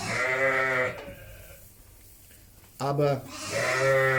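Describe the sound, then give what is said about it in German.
Many excited sheep bleat loudly, one long wavering call at the start and more overlapping bleats near the end, with a quiet lull between and a brief spoken word. “Da sind ganz viele Schafe. Ja, die sind jetzt ganz aufgeregt.”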